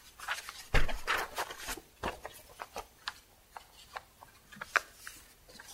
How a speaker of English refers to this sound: This piece of paper is folded. If I wanted to straighten it out, and I just tried to straighten it out, it's a little better, but it's not straight, is it?